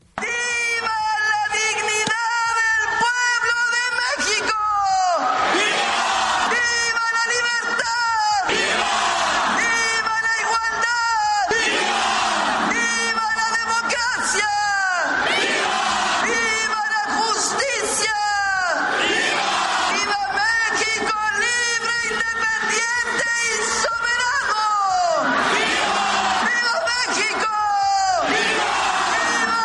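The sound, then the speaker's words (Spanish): A large crowd shouts and cheers in the Zócalo city square during the 215th independence anniversary celebration, a dense, loud roar of many voices that swells in repeated waves of high, drawn-out yells throughout. People hold up phone lights and wave flags after rain. “Ya vivimos un zócalo con la gente bastante animada, no bajó los celulares con pues la luz de estos, también ondear las banderas que se llevaban y que de pronto pues alzaban y bajaban, tanto por el cansancio, Gaby, como por pues la lluvia que había”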